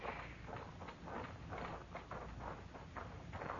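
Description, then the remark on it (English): The hooves of Benson's horse clip-clop in a steady walking rhythm, a series of evenly spaced, moderately loud knocks over a low background rumble, with no one speaking. “there's Benson's horse.”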